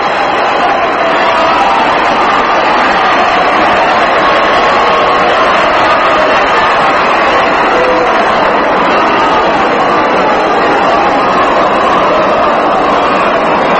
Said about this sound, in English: And now Robin Roberts comes on and gets a tremendous round of applause from the fans here.